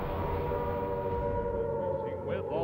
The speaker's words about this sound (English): Sirens filled the air.